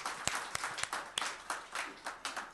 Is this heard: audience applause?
yes